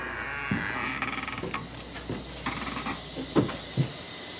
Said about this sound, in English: The dark-complexioned pit vipers lay about in glass cages. The rattlers announce our arrival. Got rattlesnakes, the timber rattler, and the canebrake.